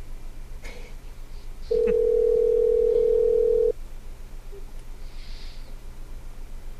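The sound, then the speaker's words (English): A steady telephone dial tone sounds once for about two seconds, clear and fairly loud over a low background hum, then cuts off, as a phone call is being made to call someone back. No one speaks. “When we call him back, let's just not say anything.”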